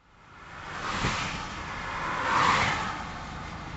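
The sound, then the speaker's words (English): Cars whoosh past in the I-77 express toll lanes in Huntersville, North Carolina, zipping past stopped cars in the regular lanes; two broad swells of passing traffic rise and fade over a steady roar, moderately loud, with no voices. “Those are cars in the I-77 express lanes in Huntersville, zipping past stop cars in the regular lanes.”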